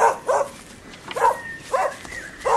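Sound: hunting dog barking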